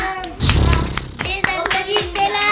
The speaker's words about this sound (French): Applaudissez-moi.